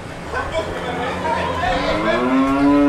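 A cow moos loudly, one long drawn-out bellow that swells and rises in pitch toward the end, with a low rumble of background noise beneath it.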